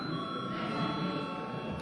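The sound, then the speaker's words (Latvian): An electric bell in a parliament rings steadily for about two seconds to call a vote, a continuous bright, buzzing tone with strong overtones and no pauses. No one speaks over it. “Lūdzu zvanu.”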